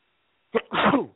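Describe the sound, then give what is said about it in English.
A single loud sneeze: a short sharp intake burst followed by a longer explosive, breathy release, with no talking. “I'm sorry. Bless you.”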